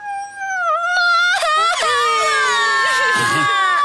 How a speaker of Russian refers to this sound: Паук Шнюк был очень сердит. Но дети так горько заплакали, что его сердце растаяло, и он смягчился.